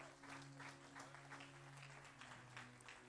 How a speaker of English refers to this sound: Give the Holy Ghost a clap offering, somebody.